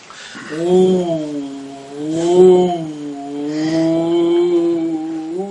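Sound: voice imitating wind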